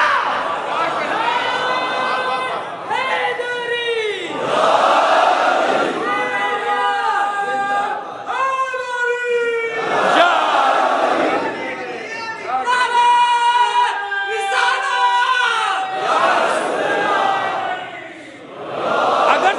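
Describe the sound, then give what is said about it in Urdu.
An audience at a speech shouts overlapping, scattered slogans, many voices rising and falling in uneven bursts that fill the space continuously, loud, with no single clear speaker. “اگرچہ کہ پراگندہ نعرے لگ رہے ہیں، لیکن میرے اطمینان اور خوشی کا باعث یعنی جہاں جہاں جس میں جوش پیدا ہو رہا ہے وہ وہیں سے نعرے لگانے کی کوشش کر رہا ہے.”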